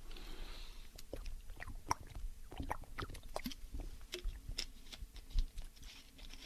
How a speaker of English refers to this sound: So now I wanted to, I got to take another sip of my water. I've been doing a lot of preaching today.